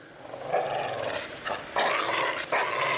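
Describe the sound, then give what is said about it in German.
A dog growls in a low, sustained rumble, with a few louder surges and snarls rising through it. No one speaks. “Ist dieser Hund an der Leine oder ist er es nicht?”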